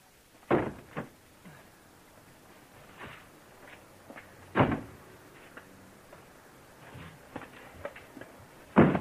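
Cardboard boxes are tossed into a van, making dull, hollow thumps at irregular intervals. A few loud impacts stand out, with softer knocks and shuffling between them and no talking.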